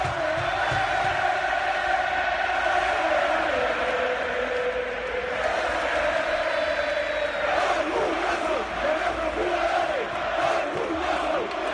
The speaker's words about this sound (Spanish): Son los futbolistas, los que oyen de fondo son los futbolistas aplaudiendo a la afición, insistimos, en una noche absolutamente espectacular.